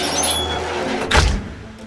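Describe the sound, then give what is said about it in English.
The massive metal gates of Ham House, a 17th-century country house in southwest London, clunk and shudder as they swing open after the fire alarm goes off, one dull thud rising briefly over a steady low rumble of background noise. “The house's massive gates swing open.”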